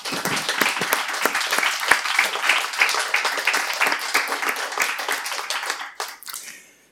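Sustained audience applause welcoming the 'kleine Rotunde' panel to the podium: a dense wash of many hands clapping at steady loudness for several seconds, then tapering off quickly at the end.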